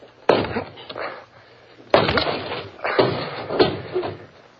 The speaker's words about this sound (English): Can you force the door? Well, yes, of course, but... Then please do. All right. Here goes.